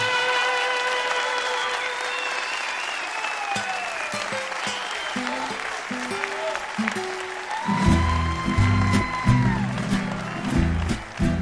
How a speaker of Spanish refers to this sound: ¡Ese aplauso, Donosti!